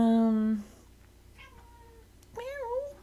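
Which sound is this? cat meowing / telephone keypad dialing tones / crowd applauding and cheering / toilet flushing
cat meowing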